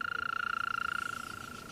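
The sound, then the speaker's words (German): An ash cicada chirps steadily on its own, a shrill, fast-pulsing buzz that stays loud, then thins slightly toward the end. “Es ist das Zirpen der Eschenzikade.”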